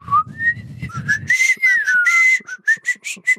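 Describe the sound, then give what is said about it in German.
A person whistles a short, wavering melody used to call a tame pigeon trained to fly to it, the notes rising and sliding in pitch, then breaking into several quick, breathy chirps at the end, with a low rumble underneath at first. “Und er hat dann wirklich so eine Melodie, die er immer gepfiffen hat.”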